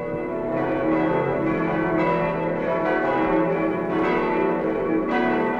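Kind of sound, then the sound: signal or alarm, church bells ringing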